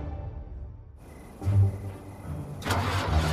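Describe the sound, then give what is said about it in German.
An old car called the Sputnik cranks and sputters in the middle of the night in a couple of rough bursts without catching and settling into a steady run. Fairly loud, with no voices. “Oz vergeblich versuchte, sein Auto zu starten.”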